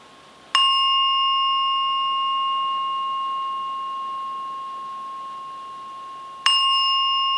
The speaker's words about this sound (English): And slowly come out of your meditation. When I ring the bell 3 times.